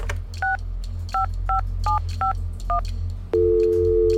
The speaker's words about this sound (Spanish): Y cuando se acercó la hora, tomé el teléfono y marqué.